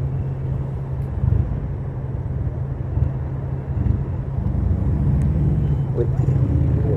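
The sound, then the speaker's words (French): A single-cylinder motorcycle engine runs steadily, its low, thumping drone holding a strong, even pitch throughout, with a rough rumbling texture and some wind noise over it. “C'est vraiment un monocylindre.”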